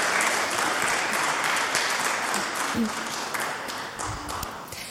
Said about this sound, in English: Thank you for your help, judges. Round of applause for my judges.